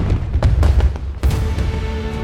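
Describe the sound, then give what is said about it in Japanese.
Large two-shaku fireworks shells burst over Nagoya Port at the 10th Meiko Water Art Fireworks 2025, part of a 13,000-shell show in the night sky over the water, a dense run of deep, rumbling booms with sharp cracks on top, loud and continuous with no pause between blasts. “今年は大迫力の二尺玉に1万3000発の花火が夜空に舞い、水面を駆け抜け、踊り、歌い上げる。”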